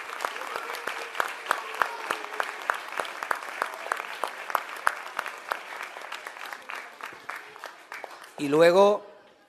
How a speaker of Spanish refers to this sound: El primero tenemos que darle un aplauso a los trabajadores de la Diputación que han montado este Belén.